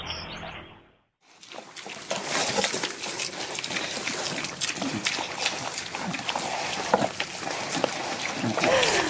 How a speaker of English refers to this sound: It sounds like pigs, and it is the sound of five young pigs eating dinner. And it must be very tasty.